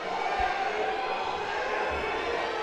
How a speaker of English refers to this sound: Any loud cheering you hear in the background is the Black Duck fans.